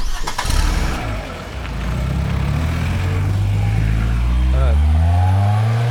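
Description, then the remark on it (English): A commandeered car's engine cranks and catches with a short burst of noise, then revs up steadily into a loud, rising drone as the car pulls away and accelerates. “I'm commandeering this car.”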